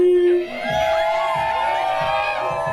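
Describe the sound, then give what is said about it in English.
A crowd at an election night celebration cheers loudly and steadily during a drag queen performance, with whoops and yells layered over a dense wash of voices, after a brief sustained tone at the start. “Later in the night, the crowd cheerfully watched a drag queen performance.”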